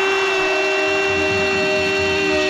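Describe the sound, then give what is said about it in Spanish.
A loud, steady end-of-match horn blares continuously for a few seconds, one unbroken buzzing tone with no break in pitch or volume and no voices over it. It signals the end of the ElPozo match at the Palacio de los Deportes. “Ahora mismo la bocina. Final del partido en el Palacio de los Deportes.”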